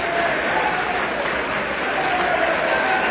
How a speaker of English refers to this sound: The applause is dying down now.